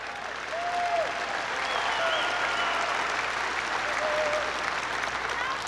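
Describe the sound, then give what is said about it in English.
A large audience claps steadily for several seconds in response to comments on wind energy, a dense continuous wash of applause with some laughter and a few raised voices mixed in. “So we hear a little bit of laughter there, a little applause.”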